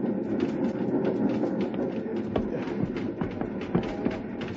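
A small train with a wood-loaded tender rattles and rumbles steadily along, its cars jolting and clacking irregularly over rough, uneven rails, the noise continuous with no voices.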